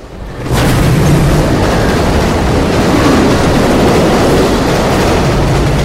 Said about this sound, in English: He watches another train pass and looks down before turning to her again.